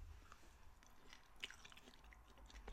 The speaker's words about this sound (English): I'd probably do this. It's so quiet if it's just eating.